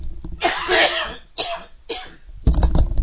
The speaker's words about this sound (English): Oh, excuse me, I've got a cough coming.